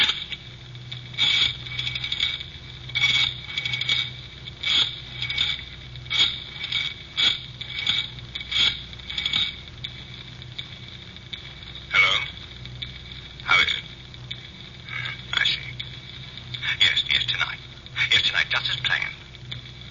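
dialing a telephone

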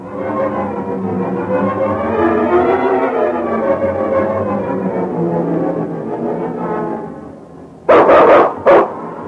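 dog barking

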